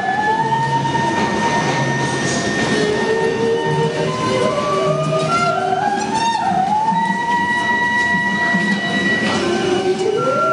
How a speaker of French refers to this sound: c'est le thème de Star Trek. Et Natalia, elle te le joue à la scie musicale.